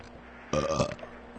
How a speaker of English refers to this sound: All right. It's burp. It's burping time.